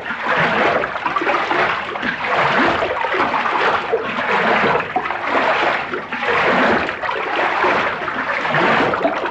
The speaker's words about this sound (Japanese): 水を張り材料を混ぜていきます。